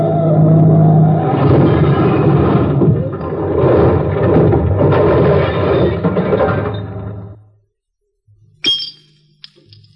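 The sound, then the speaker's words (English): A car engine roars loudly and steadily for about seven seconds as the car drives off a cliff, then abruptly falls silent; after a short pause comes a sharp, sudden crash with a metallic clink and faint rumble. “So we drive between them, park the car”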